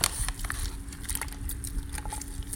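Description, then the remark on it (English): A thick mixture, with rye flour being added bit by bit, bubbling steadily, with a dense stream of soft, irregular pops and crackles over a low hum, fairly quiet and continuous, with no voices. “Listen to its bubbles.”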